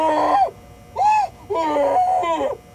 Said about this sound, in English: Agent Q only stopped screaming when he passed out from the pain